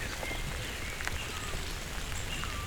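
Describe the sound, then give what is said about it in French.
Steady rain with scattered droplets pattering on leaves and surfaces beside the Cagir forest road overlooking a valley, a continuous soft hiss outdoors with occasional brighter drips, fairly faint and evenly spread throughout. “Et ces gouttelettes de pluie.”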